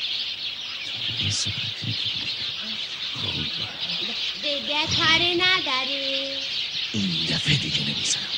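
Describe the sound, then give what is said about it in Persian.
Chicks chirp steadily in a dense, high-pitched chorus as they head toward their coop, while people talk over it, one voice rising in a drawn-out, sing-song tone. “جوجه ها میرن به سمت لونشون.”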